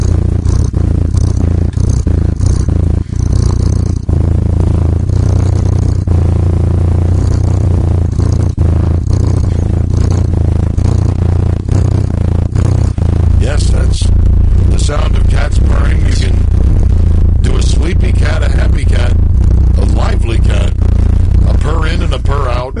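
A loud, deep cat purr rumbles continuously for the whole stretch, steady and throbbing, with faint crackly rustles and clicks riding over the low drone.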